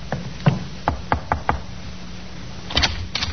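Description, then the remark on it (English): A police sergeant knocks on the second-floor front door: a few scattered raps, then a quick run of four firm knocks, a pause, and a couple more sharp knocks. No one speaks. “The sergeant knocked on the door of the second floor in front.”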